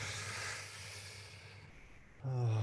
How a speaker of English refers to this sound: So we're feeling, we're breathing. Steady inhales, steady exhales through the mouth.